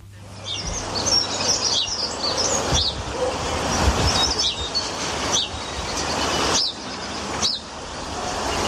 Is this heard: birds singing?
yes